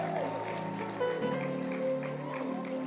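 An audience claps hands in a dense, steady patter of applause, with sustained musical tones holding underneath throughout.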